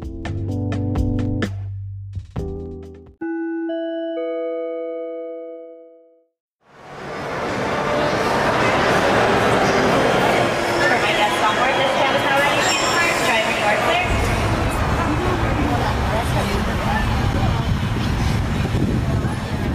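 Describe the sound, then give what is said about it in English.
A few bright chime tones ring out, then the Mickey and Friends theme park tram starts rolling, approaching the main entrance plaza, with a steady rumble and clatter of the ride continuing to the end. “please remain seated with the doors closed until this tram makes a full and complete stop”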